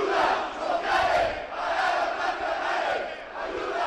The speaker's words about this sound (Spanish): recibieron a la comisión judicial así, a gritos.